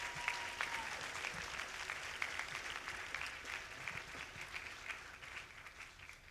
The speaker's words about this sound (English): One last thing. Oh, go ahead and encourage them, applaud them, and let them know.